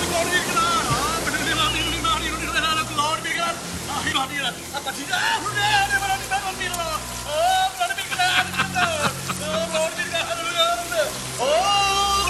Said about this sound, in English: I do. I have a tape. I have a tape of one of the boats singing. I would love to hear that. It's quite dramatic and a little bit frightening.